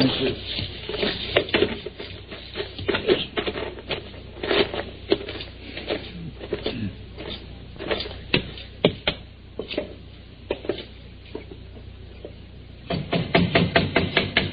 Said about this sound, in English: Don't be banging on the door. I seen you coming.